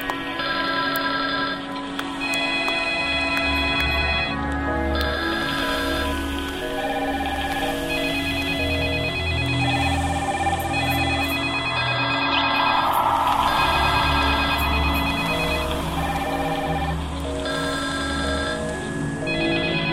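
A telephone rings loudly with bright electronic tones repeating in a steady cycle, filling the whole stretch without any voices.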